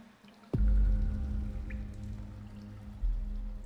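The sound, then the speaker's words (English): A body lowers into very warm pool water with a sudden splash, then water sloshes and laps steadily around it, swelling again near the end. No one speaks. “Hold my hand to help steady me as I get into the pool, easing my body into the very warm water.”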